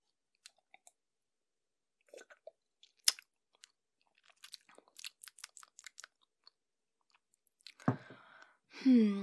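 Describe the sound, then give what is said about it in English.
Quiet mouth sounds of someone sipping and swallowing a glass of water to check it: scattered wet clicks and small gulps, with a soft throaty exhale near the end. “I'll have a little sip of water just to check.”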